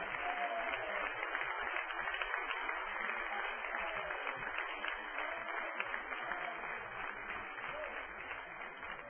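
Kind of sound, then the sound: crowd, audience applause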